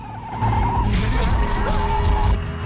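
A car's tires screech in a long, wavering squeal over a loud, rumbling engine as the car speeds and skids, weaving recklessly between traffic while pursued, the noise holding steady for a couple of seconds.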